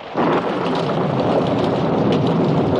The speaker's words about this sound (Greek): Ακούς? Τι είναι? Τι συμβαίνει? Βροντές.